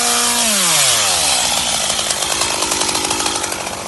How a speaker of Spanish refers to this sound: Claro, si hubiéramos venido hace unos meses, este silencio se hubiera roto por el ruido de las motosierras.